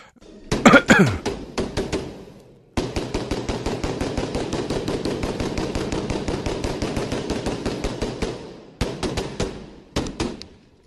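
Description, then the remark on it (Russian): Rapid bursts of gunshots from a gunman firing from a distance at groups of people inside a mosque crack out in fast, tightly packed succession, a loud sustained volley of several seconds between shorter clusters at the start and end, with no talking. “Но лупит, как сказать, кучно. Ну, в смысле, много выстрелов. Не, вы слышите сами, что выстрелов много.”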